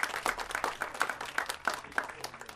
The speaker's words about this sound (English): So we give him a round of applause. Give both of them a round of applause.